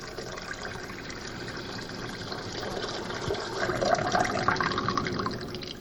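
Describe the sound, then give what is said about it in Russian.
Water pours steadily as servants fill one of six large water vessels to the brim, a continuous splashing rush whose tone rises slightly as the vessel fills, with no voices. “«Наполните сосуды водой», — сказал Иисус слугам, и те наполнили их доверху.”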